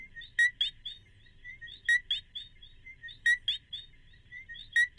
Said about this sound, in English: For folks who don't know what a coqui sounds like, listen to this.